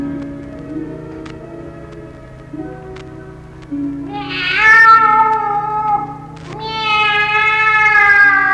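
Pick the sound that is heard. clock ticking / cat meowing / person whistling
cat meowing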